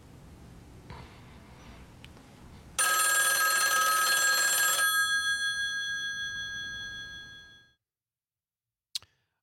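telephone ringing

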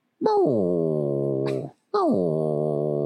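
dog whimpering

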